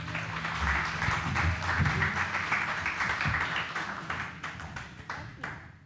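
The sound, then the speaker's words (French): An audience applauds guests joining a panel on stage, steadily for several seconds, a dense wash of clapping with some sharper individual claps, fading slightly near the end. “On peut les applaudir, s'il vous plaît.”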